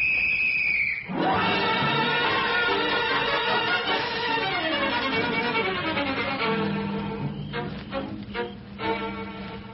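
A shrill, steady police whistle blast sounds for about a second, then gives way to a loud, dense wash of sweeping, wailing tones that continue to the end.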